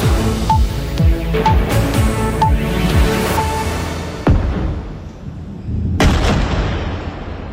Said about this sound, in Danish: Ja, eksplosioner i den israelske storby Tel Aviv her i nat, for angrebsbølgerne fortsætter mellem Israel og Iran.